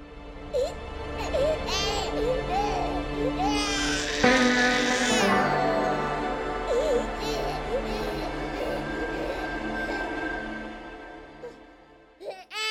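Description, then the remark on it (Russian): A newborn baby girl cries loudly and continuously, with wavering high-pitched wails that swell in the middle and break into short gasping cries near the end. “Ребенок плачет.”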